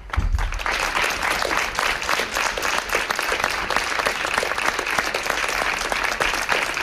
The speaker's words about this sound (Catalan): A Tarragona, l'acte s'ha fet a la plaça de la Font, on s'ha llegit un manifest que s'ha acabat amb un minut de silenci i aplaudiments.